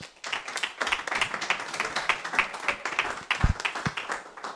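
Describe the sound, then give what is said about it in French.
An audience applauds the speakers who gave the welcome words, steadily for several seconds, a dense wash of overlapping claps with no voices, holding a fairly even level before tapering slightly at the end. “On peut les applaudir hein, quand même.”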